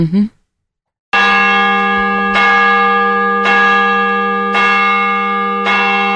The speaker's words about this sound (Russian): Вот это Брюссель, столица Бельгийского королевства. А слышите вы колокола Русской Православной Церкви Иова Многострадального на Рю де Фре.